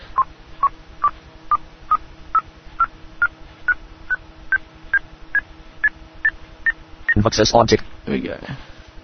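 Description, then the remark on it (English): Progress beeps while an audiobook is copied onto a network drive: a steady series of about seventeen short electronic beeps, evenly spaced and gradually stepping up in pitch as the copy approaches 100 percent, ending with a brief, louder, denser burst of sound. “And you can hear the beeps going up as it gets to 100.”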